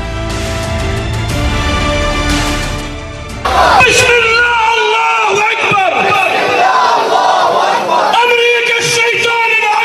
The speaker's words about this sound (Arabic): على وقع هتاف أمريكا الشيطان الأكبر، شهدت مخيمات الشمال مسيرات حاشدة دعما لغزة ورفضا للمجازر والإبادة التي ترتكبها قوات العدو في غزة والاعتداءات المستمرة على جنوب لبنان.